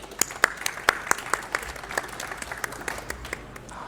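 Audience applause, a patter of sharp overlapping claps that keeps a steady moderate level for a few seconds before thinning out slightly toward the end. No one speaks over it.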